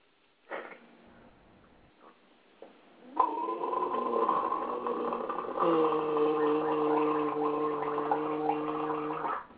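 Someone gargles salt water loudly with a voiced, bubbling drone that runs steadily for several seconds and shifts to a lower, steadier pitch partway through, after a few brief quiet noises at the start.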